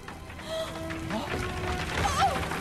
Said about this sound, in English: Burning timbers fall onto the platform, smashing a hole in it.